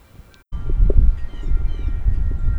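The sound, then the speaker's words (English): Loud, blustery wind on a very breezy day outdoors rumbles and buffets the microphone of an H5 recorder fitted with a windscreen after a brief silent start, while faint, high metallic wind chime tones ring softly through the gusts. No one speaks. “All right, so here's some wind with the H5 and my wind chimes going.”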